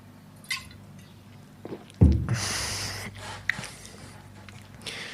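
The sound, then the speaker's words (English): Someone takes a quick sip of a drink: a soft clunk, a short breathy slurp and swallow, then a few faint clicks, with no talking. “And I gotta drink a little sip because my throat's really dry.”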